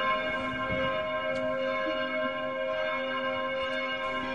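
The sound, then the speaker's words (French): A cloister bell in Boulogne rings with a sustained, resonant tone, its steady overtones hanging in the air, without any voices; it rings regularly before each service. “Voilà, donc là, régulièrement, nous avons la cloche du cloître qui sonne.”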